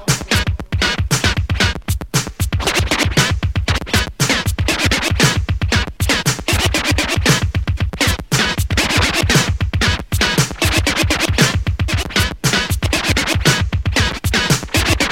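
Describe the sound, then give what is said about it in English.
Loud, continuous turntable scratching over a pounding beat, the record jerked back and forth in quick rhythmic bursts with gritty, whooshing sweeps across the whole fifteen seconds. “Large crowds build around to hear the scratchy sound.”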